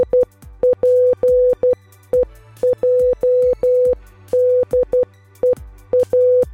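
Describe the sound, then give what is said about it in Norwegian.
A steady mid-pitched tone keys on and off in quick Morse code patterns of short and longer beeps, spelling out the word Gonova for Morse Day, loud and clear, with low rhythmic thumps underneath. “Se om du kan gætte vores morsekode her til morgen.”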